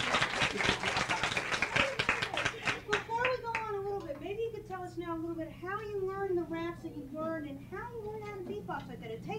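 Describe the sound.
Audience applause, a dense burst of clapping for a few seconds that quickly fades as excited, high-pitched voices and cheers carry on over scattered claps.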